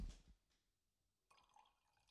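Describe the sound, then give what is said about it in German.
A short clink, then a quiet pause before liquid streams steadily into a glass for about a second, soft, with no voices. “Darfst auch gerne mal, kannst du nochmal einschenken, dass wir das hören?”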